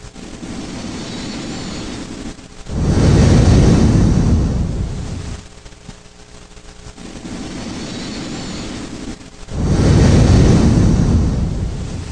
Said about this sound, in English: You can then use free software like Audacity to find the parts of the recording that have your sleep breathing. Here's a recording I made of myself. It sounds a little bit creepy, but that's just how it sounds through a cheap recorder.